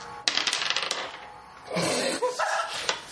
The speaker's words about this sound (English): Please roll the dice.